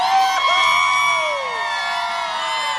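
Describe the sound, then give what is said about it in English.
A large stadium crowd roars and cheers in a sustained wall of noise, with high whoops and shouts rising above the dense, steady din for the full few seconds. “I heard that thunder that took over this stadium.”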